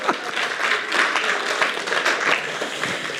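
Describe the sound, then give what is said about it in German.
A crowd applauds steadily for about three seconds, a dense, even wash of many hands clapping at once with no pauses or voices rising above it. “Applaus für dich.”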